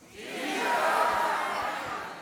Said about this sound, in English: But they can't hear nothing. It's all of us yelling at the same time.